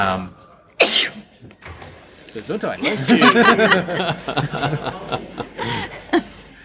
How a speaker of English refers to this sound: I think that's our first sneeze on the podcast. That is our first sneeze on the podcast.